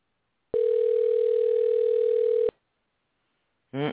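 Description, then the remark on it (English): On an outgoing call to a home phone, a single steady telephone ring tone sounds over the line for about two seconds, clear and even, then stops; after a short silence a voice briefly begins at the very end. “It says that the phone is dialing.”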